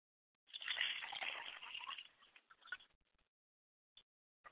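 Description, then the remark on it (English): Water is poured onto the ground as a libation during a purification ritual: a steady splashing gush for about two seconds, then thinning to a few scattered drips and a last isolated patter, moderately loud. “now that the water is poured on the ground where I'm standing at”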